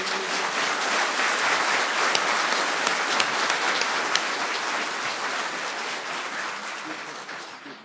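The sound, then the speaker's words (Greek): A crowd applauds a choir steadily for several seconds, a dense wash of many hands clapping with a few sharper individual claps standing out, tapering slightly toward the end. “και ένα χειροκρότημα για την χοροδία μας.”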